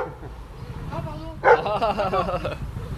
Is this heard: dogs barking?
yes